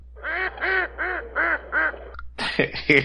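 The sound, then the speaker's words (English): A series of five loud, evenly spaced duck quacks with a slightly electronic, played-back quality, played by an Alexa smart speaker when asked what sound a duck makes, followed by a brief burst of harsher, noisier sound at the end. “Alexa, what sound does a duck make?”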